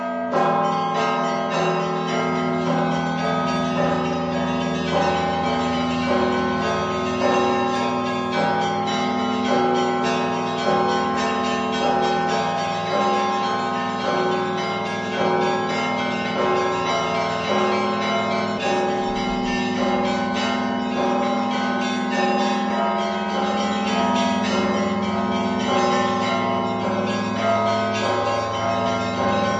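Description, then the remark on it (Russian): A festive Christmas-time peal of church bells, rung by a student of the Vitebsk school of Orthodox bell ringers, rings steadily for the whole stretch, overlapping strikes blending into a dense, shimmering wash of tones, loud with no voices. “Гэта быў святочны перазвон, выкананы вучнем Віцебскай школы праваслаўных званароў Максімам Лемачкам.”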